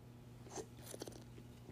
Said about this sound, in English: Let me take a sip of my DC.